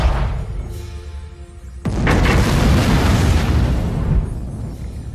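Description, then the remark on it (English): A low engine hum with faint tonal whine gives way to a sudden, massive explosion at about two seconds as an alien vessel, fired on at its unstable warp engine, is destroyed; a roaring, rumbling blast sustains heavily before easing off near the end. “Alien vessel has been destroyed, Captain.”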